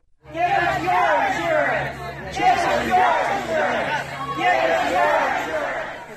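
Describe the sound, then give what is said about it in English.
A crowd of protesters in Marion, Ohio, chants "Give us your insurance" in unison in front of former President Warren G. Harding's home, confronting Congressman Jim Jordan; the loud voices rise and fall in a steady repeating rhythm of about one phrase every second and a half, over a low hum. “Protesters chanting, "Give us your insurance," in front of former President Warren G. Harding's home.”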